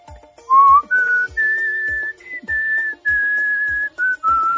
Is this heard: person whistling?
yes